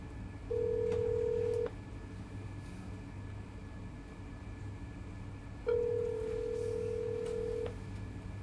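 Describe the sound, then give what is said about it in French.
A telephone rings on the line as a father calls his daughter: two long, steady ringback tones separated by a few seconds of quiet, heard over a low background rumble with no voices. “Ok, je l'appelle.”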